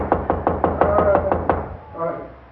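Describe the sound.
A quick, steady series of about eight firm, fairly loud knocks on the door of a man's room, from the hallway, followed by a brief murmur of a voice as the knocking stops.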